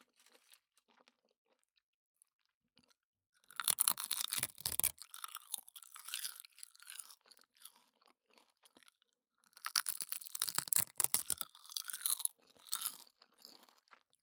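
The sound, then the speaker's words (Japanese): Crisp crunching of dried nori seaweed being bitten and chewed, in two dense bursts of brittle crackles separated by a short quiet pause, with no talking. “何より私さっきからバリバリ食べてるけど、これでなんと14キロカロリー、素晴らしいでしょ、海苔って。”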